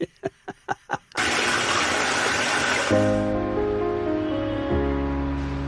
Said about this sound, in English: So they cut to a toilet flushing, and the words on the screen say, look at your pee.